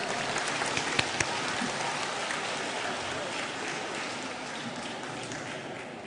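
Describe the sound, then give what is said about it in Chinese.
An audience applauds steadily to welcome Master Lu Junhong to read totems, a dense crackle of many clapping hands that holds at an even, fairly loud level for several seconds without any talking. “下面让我们用最热烈的掌声恭请尊敬的卢军宏台长为我们慈悲看图腾。”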